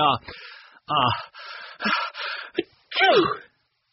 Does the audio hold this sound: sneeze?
yes